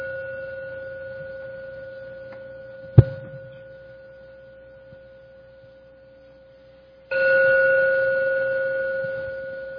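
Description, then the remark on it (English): A meditation gong, rung three times to close a meditation, rings with a long, steady humming tone, struck sharply once partway through and again later with a louder, fuller ring that sustains to the end. “I'm now going to ring the gong 3 times.”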